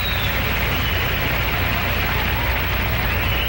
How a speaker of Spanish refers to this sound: Feliz cumpleaños a esa prestigiosa emisora. Y creo que merece un gran aplauso en sus 32 años. A ver, que se oiga más fuerte.